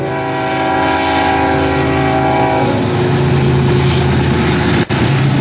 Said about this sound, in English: Back down the mountain. There's a train right behind. There's train tracks behind us.